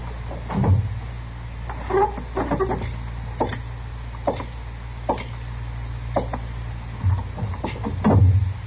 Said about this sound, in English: you want me to close the door into the back? No, never mind, Chester. I'll do it.